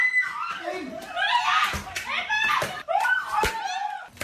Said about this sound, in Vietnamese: Tiếng la hét thất thanh của những người phụ nữ bị hành hung.